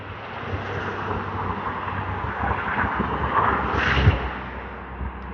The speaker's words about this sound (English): It's amazing how much of a breeze a string of cars going 40 miles an hour, 3 feet away from you, can generate.